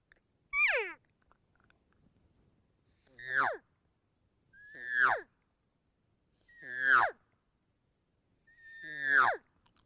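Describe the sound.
Five imitated cow estrus screams, the sound a cow makes when ready to be bred, made with a cow call while buzzing the lips into a mouthpiece; each a loud, high, squealing wail that slides sharply downward and lasts about half a second, repeated at roughly two-second intervals with silence between and no talking.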